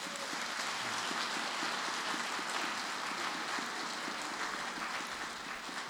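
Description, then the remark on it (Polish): A church audience applauds steadily to welcome pastors, a dense wash of many hands clapping at once, sustained and fairly loud for several seconds with no voices standing out. “Możemy oklaskami.”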